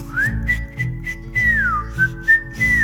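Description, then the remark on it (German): A cheerful, bright whistled melody, with several sustained notes linked by sliding pitch bends, played over a soft, low background hum. “Atem kann man fröhlich pfeifen.”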